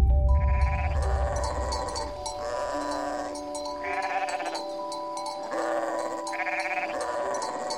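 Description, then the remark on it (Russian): Several sheep bleat in overlapping, wavering calls, one after another, steady in loudness, with a low rumble at the start and no voices. “Пас как-то пастушок овец.”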